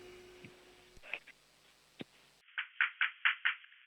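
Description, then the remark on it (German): Five loud, evenly spaced knocks on a door by a six-year-old boy from Vienna, in a quick steady rhythm, following a few scattered thumps and clicks, with no one speaking. “Okay, dann musst du zur Tür gehen und anklopfen, aber so richtig laut.”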